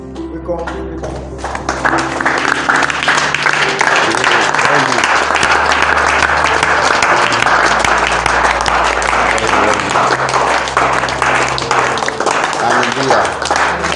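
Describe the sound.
An audience claps steadily, a dense, loud wash of many hands that swells in after a couple of seconds and keeps going, with a low hum and occasional voices underneath.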